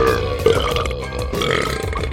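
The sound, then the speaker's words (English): A long, loud, rumbling belch drags on for a couple of seconds, deep and guttural with a wet, croaking texture, with no talking. “The cave echoed with burps, hiccups, and belches.”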